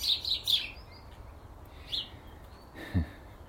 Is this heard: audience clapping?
no